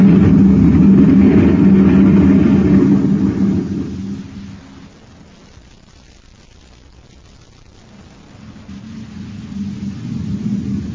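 The heavy engine of a Space Patrol maintenance truck roars loudly as it speeds past, then fades away over a few seconds into a quiet hush before a low rumbling engine swells back up.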